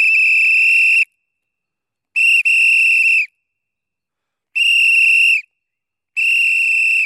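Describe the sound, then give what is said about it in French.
A referee's pea whistle, with a small ball spinning inside under the blown air, blows four loud, shrill blasts, each about a second long with gaps between, the second broken by a quick stutter. No voices are heard. “Je parle du sifflet d'arbitre, celui qui perce les tympans doté d'une petite bille qui tourne sous l'action de l'air insufflé à l'intérieur du dit sifflet.”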